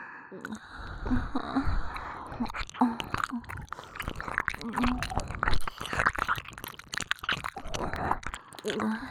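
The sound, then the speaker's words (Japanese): Wet, close-up chewing right at the mouth, with irregular smacking and crunchy bites continuing steadily throughout, occasional soft breathy mouth noises in between. “お口の中で咀嚼してあげます。”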